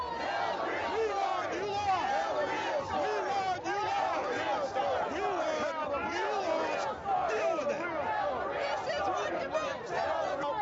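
A large protest crowd shouts continuously, many overlapping voices yelling and chanting at once, loud and close, with no pause in the din.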